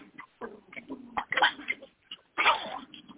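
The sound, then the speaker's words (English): Puppies yapping and barking in a scatter of short, irregular bursts, with two louder, harsher yelps standing out among the quicker, thinner yips. No one speaks. “I'm sorry, my puppies are getting acting up here.”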